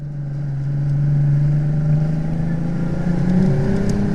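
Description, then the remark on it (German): A motorboat engine drones steadily and loudly, its pitch creeping slightly higher as it speeds along a very wide, straight canal in the Danube Delta in the last rays of the sun, with a constant rush of wind and water noise underneath. “Wir haben Glück, mit dem Motorboot sind wir viel schneller.”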